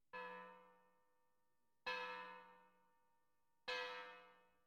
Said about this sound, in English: It was 11 o'clock on Sunday night. Sikes and Fagin heard the church bell.